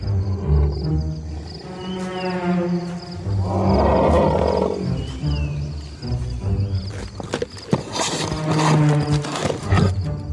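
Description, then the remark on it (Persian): A tiger, filmed for a documentary, roars and growls in deep, rumbling bursts, one swelling into a loud, rough roar midway, followed by lower snarls and a few sharp knocks or scuffles toward the end. “این دوربین‌ها فقط در برابر ببرها ضد ضربن.”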